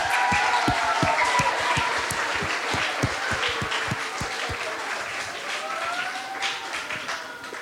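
An audience applauds steadily for a guest's mother who is present, dense overlapping claps filling the space for several seconds, with a few sharper individual claps standing out and some faint voices underneath.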